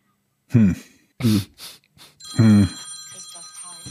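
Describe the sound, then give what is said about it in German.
A telephone starts ringing partway through with a steady, high electronic trill that continues to the end, while short vocal bursts from a person sound over and just before it. “Telefon.”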